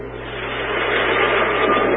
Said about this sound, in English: Thor unleashes his deadliest weapon, lightning from his magic hammer, as thunder rocks heaven and earth.